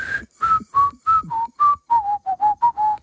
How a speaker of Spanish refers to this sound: Ha sido saberlo y empezar a silbar aquello del